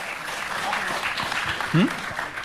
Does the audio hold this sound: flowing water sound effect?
no